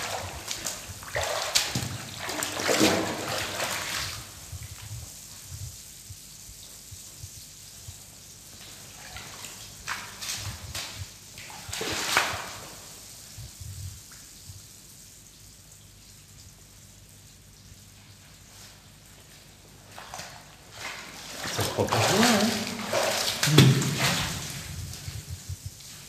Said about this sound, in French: Et est-ce que tu as la possibilité de faire un très gros mouvement d'eau pour faire des grosses vagues? C'est surtout pour arriver à sortir et à rentrer dedans pour que ça fasse la vague.